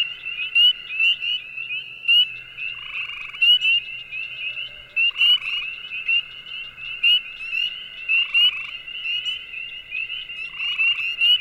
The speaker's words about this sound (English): Now would be a fantastic time to pause the recording to listen to the delightful melodies of the green frog, spring peeper, gray tree frog, and wood frogs all sing in perfect harmony.